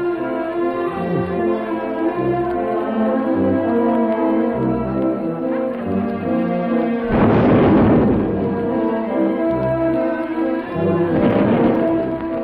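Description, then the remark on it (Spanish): Two heavy artillery salute blasts boom out, one around the middle and another near the end, over a police brass band playing steadily throughout, in July 1909. “Tan importante, Juventino Rosas, que hasta hacen disparos de artillería.”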